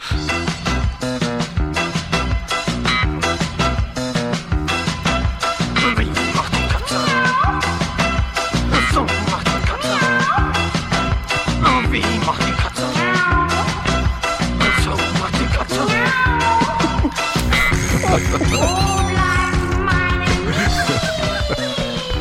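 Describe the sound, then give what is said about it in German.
An archive recording of a band's song plays loud and continuous, a steady, driving drum beat pounding under layered instruments, with the arrangement shifting to fuller sustained tones near the end. “Ich habe eine Aufnahme gefunden bei uns im Archiv einer Band”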